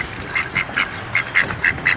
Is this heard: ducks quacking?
yes